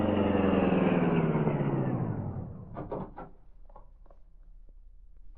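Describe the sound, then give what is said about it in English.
A powerful car engine, the Green Hornet's Black Beauty racing at top speed to the home of Sturgis, roars loudly, its pitch sliding steadily downward as it winds down over a few seconds, followed by a few faint clicks and knocks. “The high-powered car, racing at top speed, easily outdistanced Maroney in the dash to the home of Sturgis, the criminal lawyer.”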